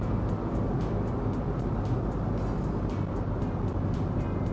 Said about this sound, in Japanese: まあちゃんと運転してますけど、しかしまあリスナーの皆様もよくついてきてくれてますよ、こんなうるさい車の中で。